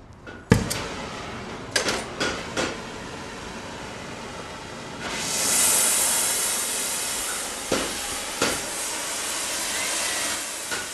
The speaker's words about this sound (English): I'll heat the shoe up, and I'll burn the shoe on. I'll heat it up to shape it if I'm using a store-bought shoe.